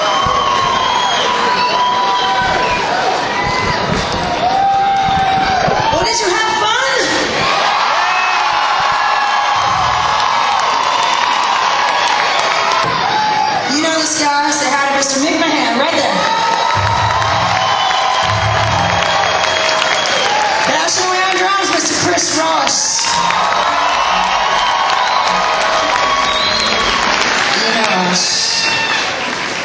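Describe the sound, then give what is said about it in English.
A concert crowd cheers and whoops steadily for the whole stretch, a dense roar of many voices that swells in sharp bursts every several seconds, with scattered shouts and some applause. “Everybody's just going crazy.”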